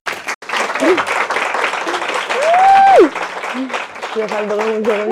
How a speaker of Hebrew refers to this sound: אני רוצה למחוא כפיים לילדה.